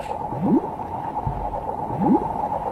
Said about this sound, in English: I watched a documentary that featured jellyfish, and one of the things that you hear every time they move, they sort of like, pulse forward, you'd hear this bloop. Yeah, like whooshing water.